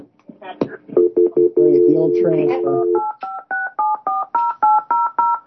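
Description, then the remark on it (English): Telephone keypad dialing tones beep in a quick, steady run of short dual-tone presses, loud, after a brief stretch of talking, as a 911 call is transferred to the Ebsekin agency. “Stay on the phone. Let me transfer you to Ebsekin.”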